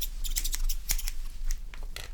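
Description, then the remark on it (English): A traditional pair of barber's scissors snips quickly and repeatedly during a haircut, a steady run of crisp metallic cuts over a low background hum, with no one talking. “And then we have the traditional pair of scissors here, where you can apply a faster haircut.”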